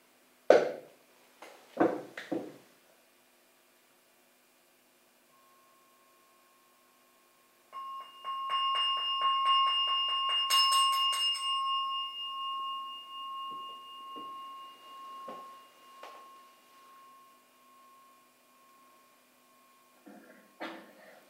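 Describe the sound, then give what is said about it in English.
A meditation bell is struck once after a few soft knocks to bring a meditation to a close, its clear resonant tone ringing out steadily and then slowly fading away into quiet, with no talking. “Bell to bring the meditation to a close.”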